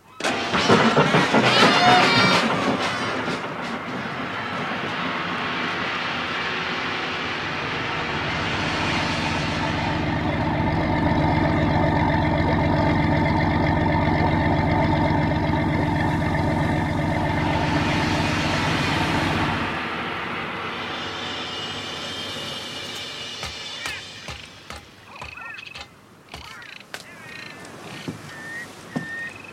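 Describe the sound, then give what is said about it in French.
A large motor launch's engine sputters into life and settles into a steady, throbbing drone that runs loud for several seconds before cutting off abruptly, leaving scattered clatter behind. “Préparez la grande chaloupe à moteur.”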